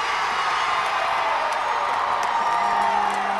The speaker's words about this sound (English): NPR Shireen Marisol Meraji watched the game with 31,000 screaming fans, including one family spending its summer vacation following the team.